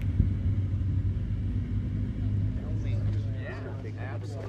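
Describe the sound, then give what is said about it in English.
A small Bonanza propeller plane drones steadily on a half-mile final, about to land upstream on the Big Creek airstrip, a grassy runway in a valley, after a 40-minute flight. A low buzzing rumble holds throughout, with faint voices briefly surfacing near the end. “lets his fellow pilots know he's preparing to land on the Big Creek airstrip, a grassy runway tucked into a valley.”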